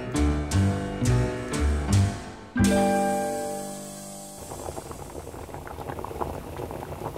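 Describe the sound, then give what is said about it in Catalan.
Rice bubbles as it boils in a pot still on the heat, a steady crackling, gurgling texture over the last few seconds, after a short passage of plucked and sustained musical notes. “Bé, encara està al foc l'arròs, així que seguim amb l'agenda.”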